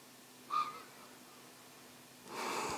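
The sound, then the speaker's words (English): Soft, quiet, ordinary uncontrolled breathing with no talking: a short inhale carrying a faint high nasal whistle, then a pause, then a longer breathy exhale of airy hiss. “And keep on this ordinary breathing in and out.”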